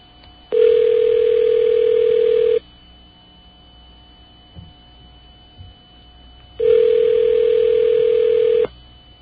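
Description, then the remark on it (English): A phone call to PayPal customer service ringing on the line: two long, steady buzzing ring tones, each about two seconds, separated by a pause of quiet line hiss, with no one talking. “Oh, it's ringing. It's ringing. It's ringing.”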